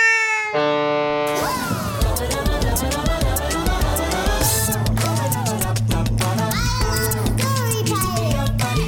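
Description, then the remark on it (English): A cat meows several times, its rising and falling cries mixed into a busy, layered background of other sounds and chatter, fairly loud. “who left the cat near this bag?”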